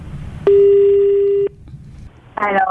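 A single steady telephone ringback tone, as a call is placed from Mifal HaPais to a prize winner, holds for about a second, loud and clear over a low background hum, followed by a brief burst of a voice-like sound at the end.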